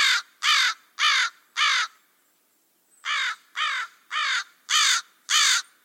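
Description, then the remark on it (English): A crow caws loudly, four harsh calls in a steady rhythm, a short pause, then five more. No one speaks. “My bird 5 is a crow.”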